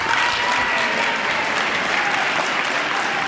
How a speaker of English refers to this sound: I think those are some Democrats cheering that they didn't act on the president's plan for partial privatization. And some spirited back and forth between the two parties.